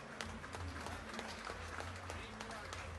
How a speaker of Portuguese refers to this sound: Salva de palmas à nossa procuradora-geral de Palmeira das Missões.